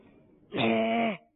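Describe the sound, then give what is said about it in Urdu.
A person imitates a cow's moo with one sustained, steady voiced note lasting just over half a second, loud, after a quiet lead-in, in answer to being asked how a cow sounds. “پتا ہو، سوچو تو آپ۔ آپ یہ بتائیں گے گائے کیسے آواز نکالتی ہے؟”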